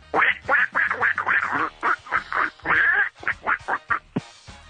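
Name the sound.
duck quacking sound effect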